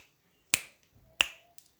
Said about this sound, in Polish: Pstrykanie palcami. Prawa ręka, lewa ręka. Prawa ręka, lewa ręka. Prawa ręka, lewa ręka. I razem teraz.